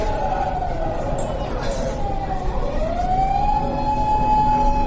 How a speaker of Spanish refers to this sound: Mentre se escoitaba de novo os sons histriónicos das ambulancias e dos coches de policía, aos que xa me estaba acostumando de novo, tras tan só unhas horas na capital, despois de tantos anos en oílos